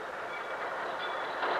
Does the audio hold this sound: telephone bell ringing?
no